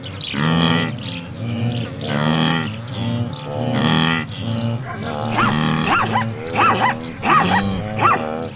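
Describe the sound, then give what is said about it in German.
A dense chorus of lowing, grunting animals from a huge migrating herd calls continuously, and near the end a zebra, probably a mare searching for her foal in the mass of animals, gives several sharp, barking, rising whinnies above the din. “Das zum Schluss gerade, das war nochmal ein Zebra, vermutlich eine Zebrastute, die ihr Fohlen in dieser Masse aus Tieren sucht.”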